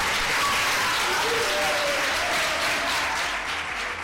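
Sustained audience applause, a dense, steady wash of many hands clapping at full volume for about four seconds, with a faint murmur of voices underneath.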